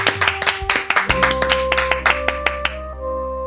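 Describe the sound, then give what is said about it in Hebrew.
An audience claps hands together in a steady, brisk rhythm, sharp repeated claps in time, as a singer is introduced to perform a medley, while sustained keyboard chords from the show's keyboardist come in underneath partway through and hold beneath the clapping. “בבקשה, חבר כפיים ברופן, בוא נתעורר, בוא נתעורר.”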